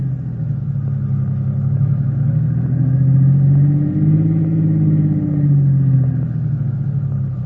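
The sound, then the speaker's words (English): A car engine rumbles steadily, its pitch rising and falling gently as the vehicle slowly swings around to park facing back the way it came; no one speaks. “Swing around and park facing back the way we came.”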